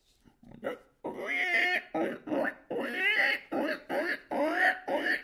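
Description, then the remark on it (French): A person imitates a pig with a rapid series of squealing, grunting vocal bursts, about eight in a row, loud and pitched with wavering squeals, after a brief quiet start. “Le cochon.”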